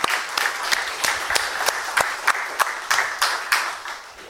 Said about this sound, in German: Und deswegen ist es mir ein ganz großes Anliegen, immer mal zu sagen, vielen Dank all die fleißigen Hände, Helferinnen, Helfer. Deswegen von dieser Seite aus mal einen Applaus an das ganze Team.